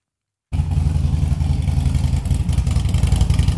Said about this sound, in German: So knattert nur eine Motorradmarke, Harley-Davidson. Der Kulttöff aus den USA, seit Jahrzehnten ein Mythos.